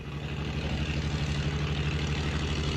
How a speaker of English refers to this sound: As you can hear in the background, the Yugoslav salvage men have put the pump into operation. The pump is pumping water into the 80-ton floating crane.